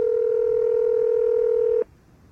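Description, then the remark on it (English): A telephone ringing tone heard on an outgoing call to Jersey City at 8 o'clock in the evening: one steady, mid-pitched electronic buzz holds for nearly two seconds, then cuts off abruptly, leaving faint line hiss. “Come on, somebody. It's dinner hour.”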